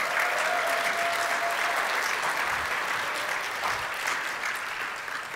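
An audience applauds steadily, a dense wash of clapping holding at a fairly even loudness for several seconds before tapering slightly at the end.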